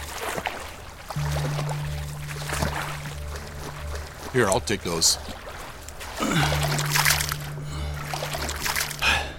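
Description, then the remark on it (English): Continuous sloshing and splashing of someone wading through water to a plane, holding a coin master and duffel bag above the surface, over a steady low engine drone, with a brief exchange of speech in the middle. “I do my best to hold the coin master and duffel bag up above the water's surface.”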